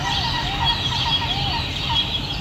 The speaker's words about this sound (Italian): Arrivano i gabbiani, vai. Li senti? Mamma mia! Sembra di essere al mare quasi. No, è vero, il mare più o meno, siamo al lago quasi. Comunque questi sono i gabbiani vicino a casa mia.